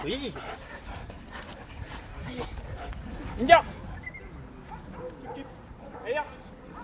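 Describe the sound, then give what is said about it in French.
A female detection dog whimpers and whines throughout, with a sharp, louder bark in the middle and another yelp near the end, after marking a person by sitting and catching a roll toy thrown by its handler as its reward, while people talk in the background. “Le chien le chope au vol. Bingo, c'est sa récompense.”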